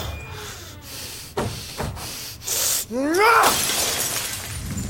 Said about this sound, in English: They said you smashed the fishbowl. Yeah. Yeah, I did.